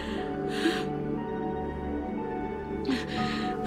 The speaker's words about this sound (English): She breathes heavily.